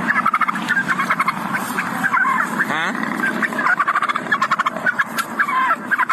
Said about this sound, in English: The turkey would not leave him alone. Here is … dealing with the bird.